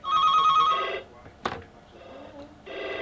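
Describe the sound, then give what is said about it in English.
A telephone rings in two bursts of a bright, warbling electronic trill separated by a short pause, with a brief click in between; fairly loud, no one speaking. “I'm trying to ring her.”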